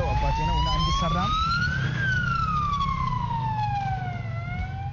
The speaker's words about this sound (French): Tout comme l'ambulance classique, elle a une sirène, un petit lit.